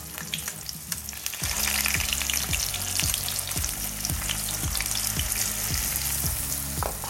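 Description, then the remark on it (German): Steady, crackling sizzle of rolled zucchini, sealed with egg white, frying until crispy in a little hot oil in a pan, fairly loud, with a soft repeating low thump underneath and no voices. “Und jetzt kommt das mit ein bisschen Öl in eine Pfanne und wird ganz knusprig ausgebacken.”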